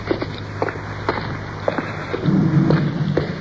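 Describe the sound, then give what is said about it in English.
A steady low rumble from cars passing overhead on a bridge, punctuated by scattered dull thumps, swelling into a louder roar midway as a vehicle crosses, with no voices. “Way up under the bridge again.”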